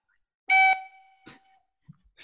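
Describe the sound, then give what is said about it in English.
A quiz contestant's buzzer, being tested before a question, blares with a loud, harsh electronic tone that rings out briefly and fades, followed by a shorter burst and another starting at the end. No one speaks. “And Paul, what does your buzzer sound like?”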